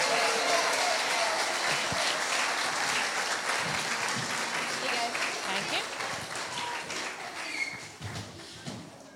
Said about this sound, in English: Wonderful. Should we give them all a round of applause?